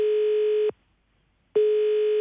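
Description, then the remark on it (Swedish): A steady electronic ringback tone on an outgoing phone call from a caller with three quick survey questions, one long beep that cuts to silence, then starts again, clear and fairly loud with no one speaking. “Han ringer med tre snabba frågor.”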